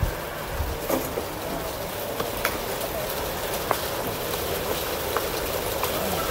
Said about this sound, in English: Amen. Praise the Lord for the rain. All right, it'll pass over here in just a second.